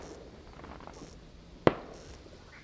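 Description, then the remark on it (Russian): A single sharp, distant, gunshot-like bang cracks out of a quiet, hissy outdoor background at night after 10 p.m., fading with a brief echoing tail; no other bangs follow. “После 10 часов вечера выпь разбудили какие-то непонятные выстрелы.”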